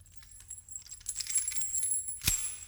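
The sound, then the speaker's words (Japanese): Keys jingle as they're lifted, a light metallic clinking that builds over a couple of seconds and ends in one sharper clack, with no voices. “鍵ですよ。さっさと取って、低層帯を外してください。”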